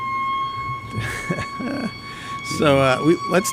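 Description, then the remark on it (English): Sirens of fire engines going by blare with steady, high sustained tones throughout, while people talk over them in bursts. “So you can tell we're live as the fire engines go blaring by.”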